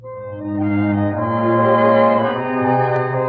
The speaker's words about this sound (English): Three chimes mean good times on NBC.